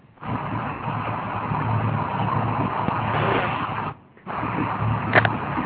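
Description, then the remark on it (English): A steady car engine rumbles continuously with road noise, muffled and band-limited like it's coming through a phone line, briefly cutting out near the end before resuming. “Sounds like somebody's in a car.”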